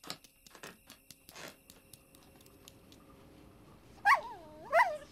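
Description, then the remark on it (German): A dog waiting to be fed whimpers in two high, wavering whines near the end, after a stretch of faint clicks and soft rustling. “Und jetzt war noch der Köter.”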